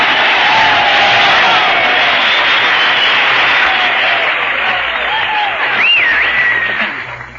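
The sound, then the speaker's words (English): A studio audience applauds loudly and steadily, a dense wash of clapping with a few cheers and whoops rising through it, tapering off slightly near the end. “Gee, what a lot of applause I got.”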